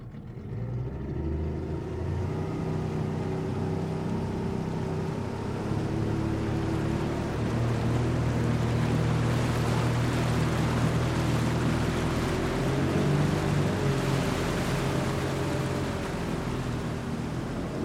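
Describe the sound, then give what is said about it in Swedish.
A sports boat's engine drones steadily at sea at night for the whole stretch, a deep, even hum with a rushing wash of water over it, loud, with no voices. “De kommer köra runt i mörkret tills bensinen tar slut.”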